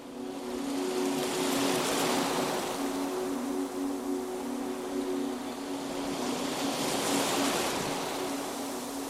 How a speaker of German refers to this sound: Unter dem Schein der untergehenden Sonne spazierst du an einem einsamen Sandstrand entlang. Die Wellen rollen behutsam auf und ab. Auf und ab.